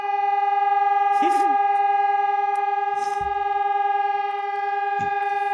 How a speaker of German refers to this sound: Ich hatte gerade das Gefühl, dass diese Sirene bei dir hier direkt auf dem Dach steht.